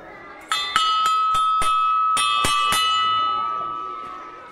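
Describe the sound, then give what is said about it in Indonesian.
An electric school bell signalling the start of class rings continuously for a few seconds, a bright sustained metallic tone with rapid clapper strikes, then slowly fades as it rings out. “Abaikan dulu bel tanda masuk itu.”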